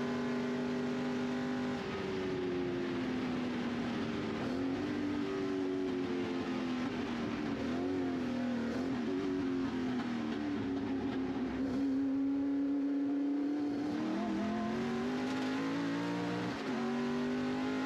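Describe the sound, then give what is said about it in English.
A race car engine drones loudly and steadily at high revs on the final part of the Mulsanne straight, its pitch holding and wavering slightly as it runs flat out, with brief dips like gear shifts near the start and end. “So the car really moves around on you. Got a good run out of that corner”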